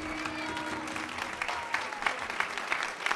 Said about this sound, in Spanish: Un aplauso para Nacho también, por favor.